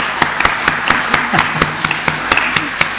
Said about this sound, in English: Yeah, give her a clap.